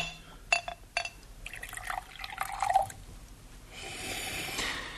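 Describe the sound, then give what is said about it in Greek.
Two sharp glassy clinks, then a bright trickling gurgle of cognac being poured into a glass, followed by a steady soft hiss; no voices. “Γουότσον, θα έχεις την καλοσύνη να του δώσει μια γουλιά κονιάκ.”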